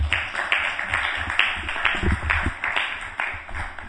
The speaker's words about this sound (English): Thank you very much. Round of applause for Prabhupada.